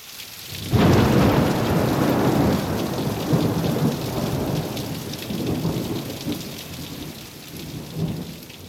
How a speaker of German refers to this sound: Plötzlich begann es zu gewittern.